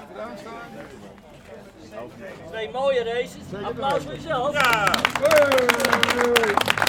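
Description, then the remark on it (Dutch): Voices talk over a lively background, then a burst of loud, dense applause for a driver after two car races breaks out for the last couple of seconds, with a voice still carrying over the clapping. “Applaus voor jezelf.”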